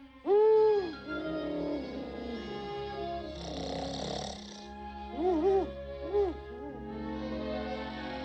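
An owl hoots: one long, wavering call, then a breathy rushing stretch, followed by a pair of quick hoots and a final single hoot. No one speaks.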